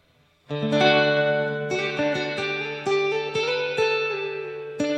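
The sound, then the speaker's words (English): Bright, tinny plate spring reverb from a Logic Pro patch washes over a sustained electric tone, with a series of chord attacks every half second or so blurring into a ringing, metallic tail. No voices. “Ugh, that's that plate spring reverb that I don't care for.”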